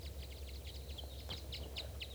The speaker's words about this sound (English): There's at least 4 or 5 birds here. A large flock.